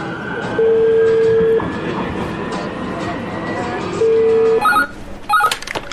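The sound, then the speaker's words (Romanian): A metro train leaving the station rumbles steadily as two long, loud warning beeps sound for the closing doors, followed by a few short electronic tones near the end. “Atenție! Se închid ușile. Urmează stația Timpul Noi cu peronul pe partea dreaptă.”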